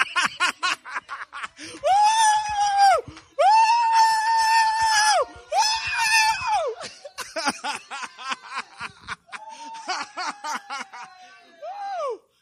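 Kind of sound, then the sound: human body sound, man screaming excitedly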